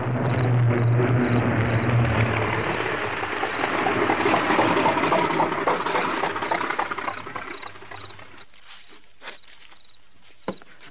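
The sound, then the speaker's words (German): A small propeller plane drones loudly as it returns, comes in and rolls to a stop, its engine cutting out abruptly, leaving near-silence with a few faint clicks and taps. “Aus sicherer Deckung heraus beobachteten die Kinder am nächsten Tag, wie das Flugzeug zurückkehrte.”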